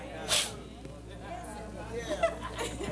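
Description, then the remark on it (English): A single short, sharp, disdainful sniff through the nose, as if smelling something that stinks, hissy and forceful, followed by a low murmur of background voices. “You know, when you sniff like that, you twist up all the rest of your face.”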